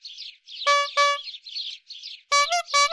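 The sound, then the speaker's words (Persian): Sparrows chirp busily in a tree in summer, a steady flutter of small high tweets, broken up by a few louder, buzzy honk-like bursts in quick pairs. “اونجای درخت بود که تابستونا پر از گنجشک میشد.”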